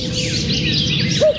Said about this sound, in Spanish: Mira el cuco.